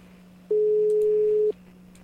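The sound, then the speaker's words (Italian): A single steady telephone ringing tone sounds for about one second on an outgoing call to a guest of the show Bar della Poesia, a plain mid-pitched beep over a faint low hum, followed by quiet line noise. “Squilla. Intanto squilla. Già un buon inizio.”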